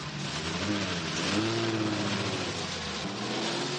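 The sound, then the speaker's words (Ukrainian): A car speeds along with a loud, steady roar of engine and road noise, a short wavering whine rising through the middle as the car skids, with no voices. “Гей, обережніше! Машину заносить!”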